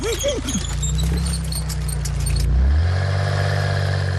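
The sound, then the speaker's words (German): A race car's engine rumbles low and steady as it rolls very slowly along a street, lighting up the road, with some jangling metallic rattles early on before the engine settles into a smoother, even drone. “fährt ganz langsam und leuchtet die Straße ab. Er fährt so langsam, dass Tino ihn fast überholt.”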